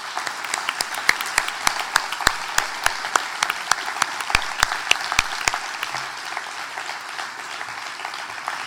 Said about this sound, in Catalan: Així que també m'agradaria demanar-vos un fort aplaudiment per a elles i ells, ja que avui tenim la sort que la majoria siguin aquí al Retiro. Gràcies.